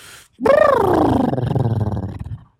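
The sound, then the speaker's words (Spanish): A person imitates a horse whinny: a loud, wavering vocal cry that slides downward in pitch and turns into a rough, fluttering low rumble, lasting about two seconds with no other sounds. “Fíjate, ahí va el caballo.”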